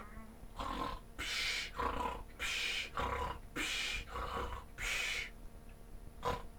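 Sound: loud snoring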